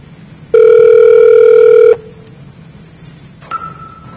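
A loud, steady electronic phone tone sounds for about a second and a half, then stops; after a pause, a short, fainter higher beep follows. There is no talking.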